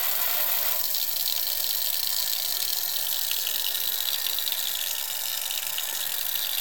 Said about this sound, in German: Dazu habe ich noch einen Schlauch. Das eine Ende kommt hier über die Pumpe. Und das andere Ende kommt hier über die Halbkugeln. So. Dann halte ich die kurz zusammen und mache die Pumpe an. Und dann müssen wir einen Moment warten.